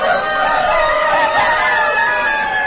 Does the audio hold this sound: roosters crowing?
yes